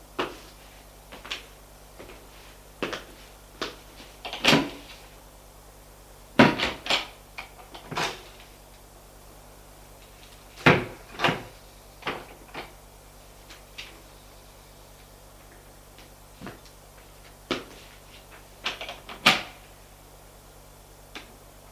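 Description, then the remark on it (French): Cupboard doors and drawers opening and shutting one after another, an irregular run of sharp wooden clacks and thumps, some in quick pairs, over a faint steady low hum with no talking. “Elle se mit à ouvrir. Les placards, les tiroirs, mais sans rien toucher.”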